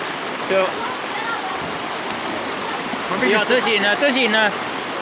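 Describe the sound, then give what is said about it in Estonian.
Heavy rainwater pours down on Saaremaa in a steady, dense roar like a waterfall, filling the whole clip, with voices briefly speaking over it near the start and again toward the end. “No siin on nii nagu Niagara Kosk tuleb sealt alla.”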